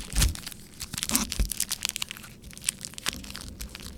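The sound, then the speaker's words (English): Crisp crunching of a milk chocolate and melty caramel snack being bitten and chewed, with a burst of sharp crackles followed by smaller irregular crunches and rustles, no talking. “I'll take whatever you have just to make the crunchy song.”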